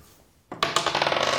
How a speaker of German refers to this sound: So, sollen wir mal würfeln? Komm. Nee, würfel mal.